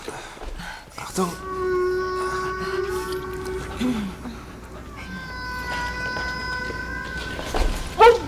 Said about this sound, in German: Das hört sich an wie Walgesang. Du meinst die Laute, mit denen Wale sich verständigen? Ich dachte, das wäre eher so ein Klicken. Ja. Ja, das kommt drauf an, welcher Wal.